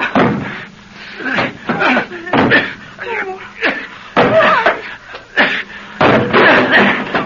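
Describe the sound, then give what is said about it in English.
A metal kitchen stool bashes against the front door of a house to break it open, a series of loud, heavy bangs at uneven intervals, with grunting and strained vocal sounds between the blows. “This metal kitchen stool will do for me. What are you doing? I'm going to bust us out of here.”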